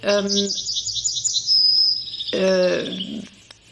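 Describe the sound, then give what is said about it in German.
A yellowhammer sings a hoarse, ringing phrase: a rapid run of short notes ending in a drawn-out high note, followed by a second harsher burst. The song is clear. “Das hier ist eher was Schmetterndes.”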